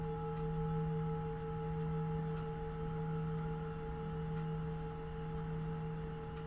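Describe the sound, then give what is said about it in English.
A meditation bell's lingering resonance hums softly and steadily, its layered overtones sustaining for several seconds with a gentle waver and no voices. “Allow your attention to really hear the sound of the bell all the way to the end.”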